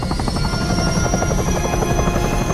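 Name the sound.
helicopter taking off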